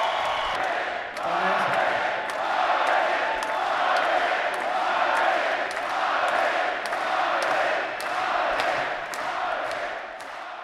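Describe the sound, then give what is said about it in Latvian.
A large crowd at a boxing fight shouts and cheers continuously, a dense roar of voices with rhythmic sharp claps or thuds punctuating it roughly every half second, loud and sustained throughout. “Paldies, kas kliedz tur.”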